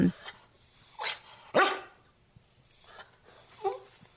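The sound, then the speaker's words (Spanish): A dog lets out about five hoarse, raspy barks at irregular intervals, with quiet gaps between each breathy, strained bark. “Ese perro está afónico.”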